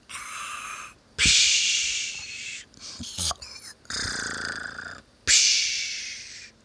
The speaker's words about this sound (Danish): Åh, det er begyndt at snorke nu.